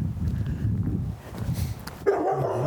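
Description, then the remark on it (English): A big black puppy in its yard lets out a sharp bark near the end, following a stretch of low, rumbling outdoor noise. The bark rings briefly with a throaty, slightly whining tone. “Oh, here's a dog. It's a giant puppy.”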